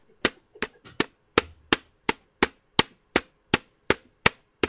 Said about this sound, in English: Yeah, I'll just type it straight in. I've got a keyboard with me.